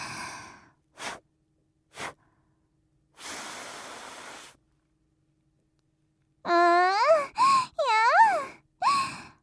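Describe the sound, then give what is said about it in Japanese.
Close, breathy exhales: two short puffs, then a sustained soft blow of breath through a face mask, followed by several voiced sighs with gliding pitch. No words are spoken. “ほーら、マスク越しに息も吹きかけてあげますね。”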